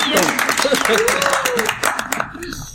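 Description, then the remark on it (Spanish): A crowd applauds the young players of an orchestra with dense, loud clapping from many hands, voices calling out over it, before the applause thins and tapers off near the end. “Muy bien, chicos, un aplauso.”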